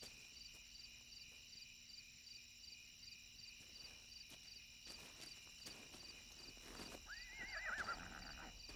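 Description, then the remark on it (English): A horse whinnies near the end, its neigh rising and falling, after scattered faint hoof clops, all over a steady chorus of chirping crickets. “It's a horse, all right.”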